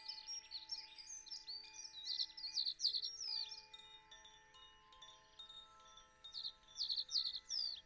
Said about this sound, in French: Dans la forêt, au bord d'un petit ruisseau, vivait un bel oiseau bleu. L'oiseau bleu était si heureux qu'il chantait et voletait sans cesse d'arbre en arbre.